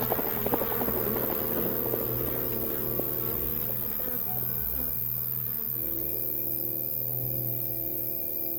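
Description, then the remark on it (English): A dense swarm of wasps from a tree nest broken open by bullets drones steadily and loudly for the whole stretch, a thick layered buzz. Scattered clattering taps break through during the first few seconds. “It was your wasps that did that. Wasps? Oh, you mean the nest in the tree.”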